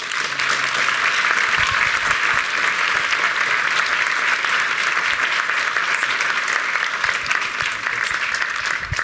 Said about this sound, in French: Pour qu'il se remette des applaudissements